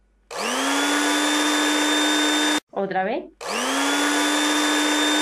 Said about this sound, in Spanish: Y las opciones son una batidora, un cortacésped o una impresora. Una batidora. Sí, es una batidora.